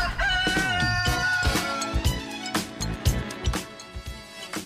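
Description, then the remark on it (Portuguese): A rooster named Policarpo crows loudly, a drawn-out rising and falling call, over a busy backdrop of sustained tones and sharp knocking sounds. “acordando o galo Policarpo.”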